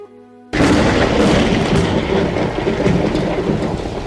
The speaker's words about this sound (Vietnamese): Sấm nổ giữa trời quang làm ta kinh sợ, mà cũng dọa cả hắn.